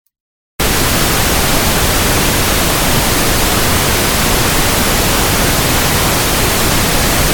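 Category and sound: sound effect, pink noise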